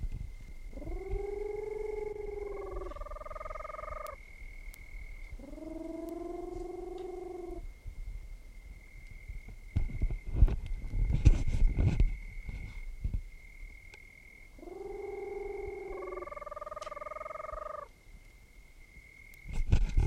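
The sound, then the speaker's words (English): A screech owl (Otus roboratus), recorded at Perinas, Department of Piura, Peru, calls in three short bursts of low, hoarse, harmonic notes, each a quick stepped pair, over a steady faint high whine and some low rumbling noise. “Both of the previous birds were collected at Perinas, Department of Piura, Peru, Otis robureta subspecies.”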